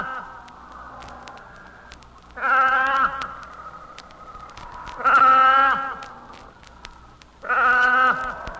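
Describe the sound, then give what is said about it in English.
A seal pup that has lost its mother cries out three times in long, wavering, bleat-like wails with a rich harmonic tone, each lasting about a second, spaced a few seconds apart over a low steady background. “There's no sound more heartrending than that of a pup who has lost his mother.”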